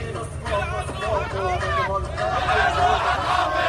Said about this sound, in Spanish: Miles de sirios han salido en las últimas horas a celebrarlo a las calles de Damasco. Entre el sonido de los disparos al aire de los rebeldes, el ruido del claxon de los coches y la música también a todo volumen.